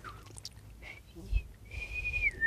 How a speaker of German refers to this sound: Und ich mag es eh lieber. Man sieht dann zwar ein bisschen blöder aus, aber der Ton ist schöner. Ja, vor allem, du machst gar nicht so eine. Du pfeifst nochmal ganz anders. Das ist ja fortgeschrittenes Pfeifen.